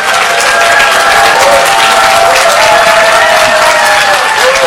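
A crowd applauds steadily, dense overlapping clapping that stays loud and even throughout, with faint cheering mixed in and no one speaking over it.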